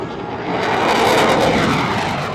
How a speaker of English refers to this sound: U.S. fighter jets roared through the air above the Seoul Aerospace and Defense Exhibition.